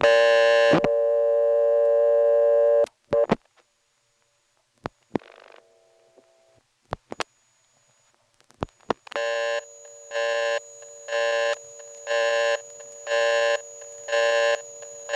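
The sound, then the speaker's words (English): A steady buzzing telephone line hum as a 3-digit code is dialled: the second digit takes the hum off the line with sharp selector-like switching clicks and a faint hum, then the third digit dumps the call to a loud busy signal that pulses on and off in an even, repeating rhythm. “the hum gets louder, and you hear a sort of rotary switch operating in the background”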